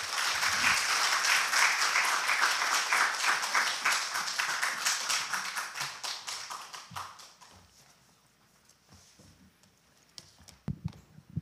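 An audience in Japan applauds to welcome a guest preacher on Sunday, with dense, steady clapping that is loud at first, thins into scattered claps, fades almost to silence, then ends with a few sharp isolated claps or taps.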